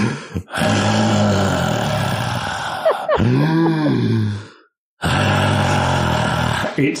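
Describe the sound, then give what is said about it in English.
A person loudly imitates heavy snoring, with rough, rumbling inhales and exhales in a few long bursts, a brief pitch-swooping snort in the middle and a short silent gap before the last snore. “He starts snoring. And it's not like dainty little...”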